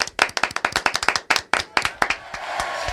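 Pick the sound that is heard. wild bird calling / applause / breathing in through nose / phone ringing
applause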